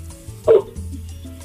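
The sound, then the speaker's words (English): A pit bull gives a single sharp, loud bark, a short burst standing out over a steady low hum with no talking. “What kind of dog you got?”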